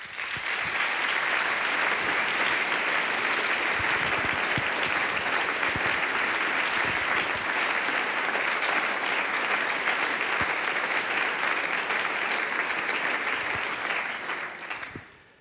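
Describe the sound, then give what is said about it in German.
Sustained concert audience applause for an orchestra's horn player as he is introduced, a dense wash of many hands clapping at a steady loud level for about fifteen seconds before tapering off at the end, with no voices standing out. “das ist dein Applaus.”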